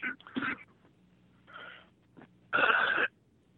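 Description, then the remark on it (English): Three harsh, raspy coughs with pauses between them: a double hack at the start, a softer one in the middle, and a longer, louder, wheezy cough at the end, with no talking. “Well, we hear you cough.”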